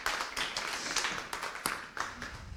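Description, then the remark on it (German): A crowd applauds steadily, many hands clapping in a dense, continuous wash with a few sharper claps standing out, moderately loud and sustained throughout. “Einmal Applaus noch.”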